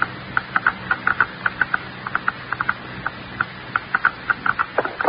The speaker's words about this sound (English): I'll pass the counter over now and increase the intensity of the clicking, and we've got it.